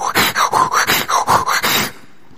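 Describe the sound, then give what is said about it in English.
Loud, rapid, heavy panting: about seven quick, labored breaths in a steady rhythm, then a sudden stop. A person demonstrates the strained breathing of childbirth, with no speech. “That's not how they taught me to breathe, but it's how I breathed when Emma was born.”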